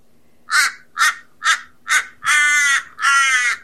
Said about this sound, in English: And we have Wakan the crow in the background. So he's one of our spirit birds. So we won't mind him if he gets a bit talkative and loud, eh?